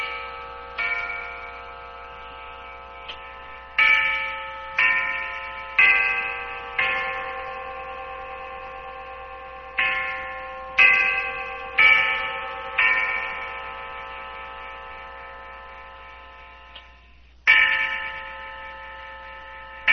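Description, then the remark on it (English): A clock plays a Westminster chime, a sequence of clear ringing bell tones struck one after another, each note sustaining and overlapping with the next, moderately loud with no talking. “I'm going to demonstrate the Westminster.”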